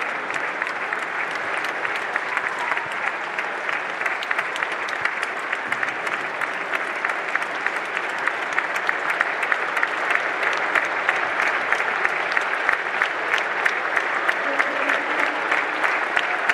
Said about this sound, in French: Allez, je vous le rappelle, vous écoutez France Bleu Sud-Lorraine en direct du stade Marcel Picot, et ses applaudissements nourris en hommage à Nicolas Hollebecq, le président de la Estancy-Lorraine.